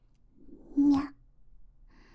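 A single short, high meow, fairly loud, rising then falling in pitch; it sounds like a human voice imitating a cat, followed by faint breathy noise.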